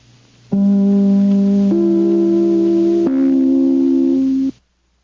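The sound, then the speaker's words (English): The NBC (National Broadcasting Company) network broadcast chime plays three loud, sustained bell-like notes in sequence, each ringing for over a second before the next sounds, then stopping cleanly. No voices. “Just as soon as I ring my chime, this is NBC, the National Broadcasting Company.”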